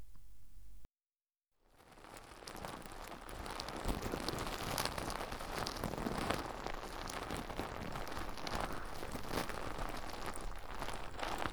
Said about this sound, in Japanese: まずはこの泡で出てくるソープをたっぷり手のひらに出して、では、手に出したこのもちもちの泡をお耳に塗っていきますね。こっちの耳から。